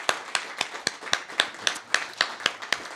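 Audience applause at a tribute concert for the songs performed, in the form of crisp, evenly spaced claps, about four per second in a steady rhythm, moderately loud, with no voices over it.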